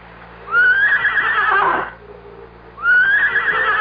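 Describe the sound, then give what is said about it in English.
A horse tethered in the woods neighs loudly, a long quavering whinny, then pauses and starts a second whinny that is cut off at the end. No one speaks. “Back to my horse, to my old friend, who stood patiently tethered, waiting for me, trusting in me.”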